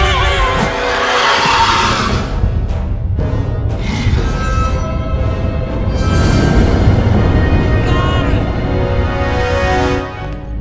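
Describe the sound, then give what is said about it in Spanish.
Loud, chaotic shrieking from several children fills the whole stretch, high piercing cries overlapping one another with barely a pause, harsh throughout. “¿A qué viene tanto chillido de niño?”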